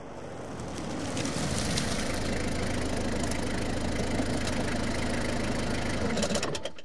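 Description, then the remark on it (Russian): A car engine idles steadily with a low, even rumble, broad noise over it, fading out near the end as the motor settles, as the car pulls up at dawn. No one speaks. “Любовь Александровна увидела в окно подъехавшую машину мужа”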